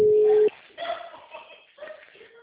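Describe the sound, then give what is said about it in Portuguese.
A single loud, steady telephone tone sounds for about half a second and cuts off abruptly, followed by quieter voices talking. “telefone.”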